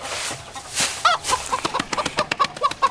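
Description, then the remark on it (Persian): Several chickens cluck in a chicken coop in a quick, uneven series of short calls, with a rustling, busy background and no talking. “تو مرغ دونیم.”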